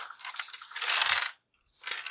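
Dice clatter and rattle across a table in a long, busy burst, go quiet briefly, then skitter again more softly. Fairly crisp, with no talking.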